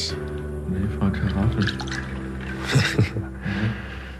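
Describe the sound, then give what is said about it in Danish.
Wine glugs and gurgles as it is poured into a glass, a steady stream lasting several seconds with bubbling surges along the way, over a low background hum. “Nå, skulle vi lige have et lille glas...”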